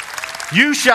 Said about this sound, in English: Give her a big hand clap.